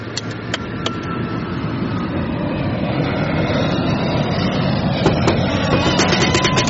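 A steady, loud roar of an airplane in flight fills the scene, a dense engine drone with occasional sharp clicks and rattles on top, and no voices.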